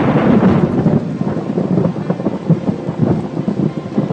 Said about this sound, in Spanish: Entre tanto, Nube Gris seguía enojada y no paraba de llover.